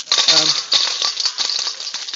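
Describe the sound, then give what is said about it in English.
A stream of pound coins clinks and jingles as it's poured into an offering, a rapid metallic cascade of many small chinks lasting a couple of seconds, fairly loud. “You think they're coppers. They're actually pound coins.”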